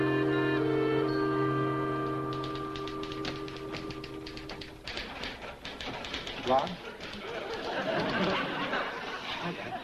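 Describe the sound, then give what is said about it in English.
Rapid, steady clacking of typewriter keys as a young woman types over 100 words a minute on a sociology project, starting soft under a sustained tone and growing busier, with murmuring voices and a little laughter joining later. “She types over 100 words a minute.”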